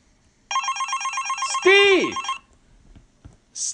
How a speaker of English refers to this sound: Have you seen my phone? I hear her! Where is she?